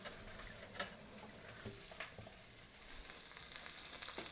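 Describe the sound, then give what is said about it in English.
Steady crackling sizzle of chicken browning in a pan with onion nestled alongside, with scattered sharper pops and spits over a dense hiss, moderately loud and continuous throughout. “Right now we want to brown up the chicken and then give the onion a little bit more of a chance.”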